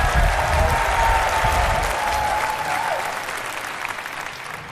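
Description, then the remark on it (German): Steady audience applause for a performer who has just been given 10 points, a dense wash of clapping that holds loud for a few seconds and then gradually thins and fades, with a faint murmur of voices underneath. “Applaus für”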